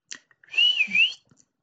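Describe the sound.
A person whistles a single sustained, fairly high note that swoops down and back up, lasting under a second, preceded by a few faint clicks, with no talking.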